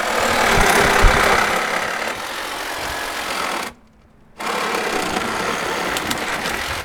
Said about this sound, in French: s'activent donc avec leur visseuse et une scie.